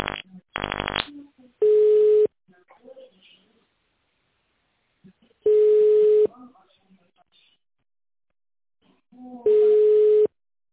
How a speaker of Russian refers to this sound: Добрый день. Вы позвонили в компанию Inline Group. В тоновом режиме наберите добавочный номер сотрудника или дождитесь ответа секретаря.